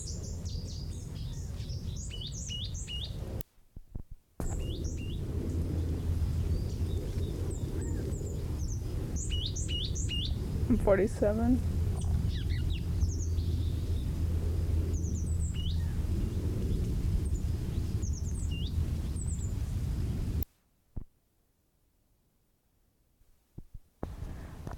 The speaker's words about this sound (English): Well, I guess I'm not gonna sing. It's like pulling teeth trying to get this bird to sing, so I give up. There are two birds, mated pair, and I don't know whether I was recording the call notes of the male or the female, probably both.